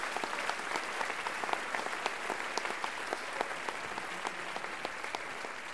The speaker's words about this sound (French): on les applaudit très fort encore une fois.